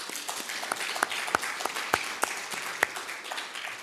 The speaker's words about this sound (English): And you can clap if you can.